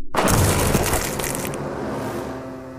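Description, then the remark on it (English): A single loud, heavy smash of a man's body falling from a height and hitting the pavement below, a sudden crunching impact that fades into a low lingering rumble. No voices are heard. “Silently, with no scream, and only the sickening sound of his body as it smashed into the pavement below.”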